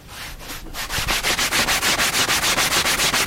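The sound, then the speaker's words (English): Rapid, steady rubbing strokes over a surface as a wet finish is worked smooth, a hissy back-and-forth swish that starts softly and settles into a fast, even rhythm. No one speaks. “I mean, it needs a little more rubbing, but it's not bad.”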